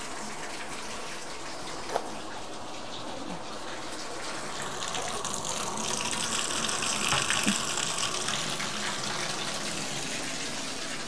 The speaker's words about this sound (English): Okay, let's go in the other room while that tub's filling.